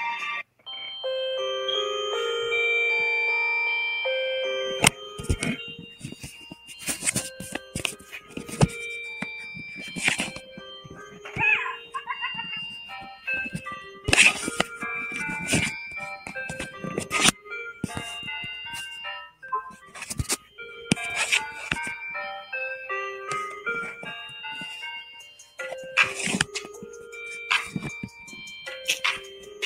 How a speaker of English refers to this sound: Stop this damn music, man. My damn phone.